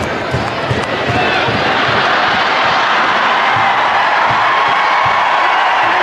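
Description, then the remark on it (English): A huge crowd at a game roars and cheers continuously at a steady, loud level as a dog runs loose across the field, a dense wall of voices with scattered shouts and whoops rising out of the din. “And yes, the crowd was roaring, partially because it was entertaining, partially because it was the most excitement the game had had entirely to that point.”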